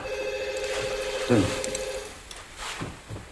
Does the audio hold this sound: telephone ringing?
yes